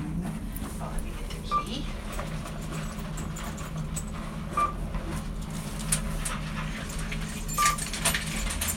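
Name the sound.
dogs barking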